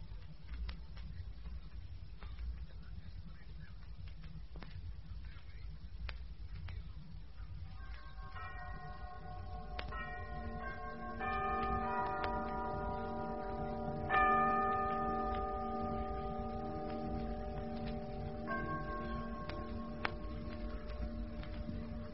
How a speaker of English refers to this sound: That's funny. The clocks, they still go on. Ah, them that's worked by clockwork will, Lucy. Until they're all run down.